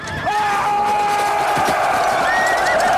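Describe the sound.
In a film battle scene, a large army of Scots led by William Wallace roars and screams together in one loud, sustained battle cry as they charge at full speed, with rumbling movement and possible hoofbeats of mechanical horses beneath the steady wall of voices.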